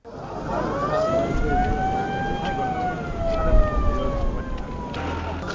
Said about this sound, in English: Family members, friends and curious onlookers watch as two ambulances with 13 former hostages arrive at Ngawi, a town on Cameroon's border with the Central African Republic.